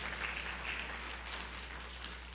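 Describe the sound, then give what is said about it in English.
A church audience in the Florence area applauds for the Lord during a service: soft, steady, dense clapping that blends into a crackling wash with no single claps standing out. It holds evenly for a couple of seconds, with no voices over it. “Let's give our Lord our applause.”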